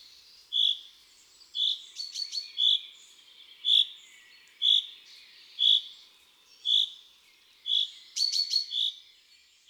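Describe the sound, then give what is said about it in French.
A chaffinch gives its rain call, a short, high note repeated in a long, steady, monotonous series, roughly one note per second, clear, with a few quick extra chirps mixed in. “Le r du pinson, ou cri de pluie, est lancé en longue série monotone.”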